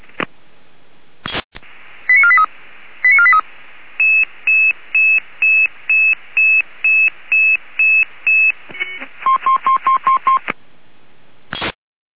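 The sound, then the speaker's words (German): A radio pager alerting tone sequence for an emergency callout: short warbling bursts, then a steady run of a dozen evenly spaced beeps and a quicker higher-pitched trill, all over a hissy, band-limited radio channel with no talking. “Heimerland, Alarmierung.”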